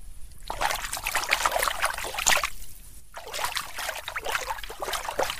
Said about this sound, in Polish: Na dowód, że ta rzeczka, proszę państwa, tu jest. To tylko tu chlapniemy.